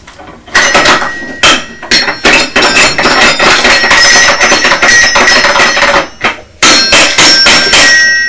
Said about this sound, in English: You like making a lot of noise. What is this? That's you banging with a stick. That's steady. That's the xylophone and the drum.